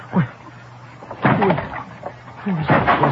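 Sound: door being broken down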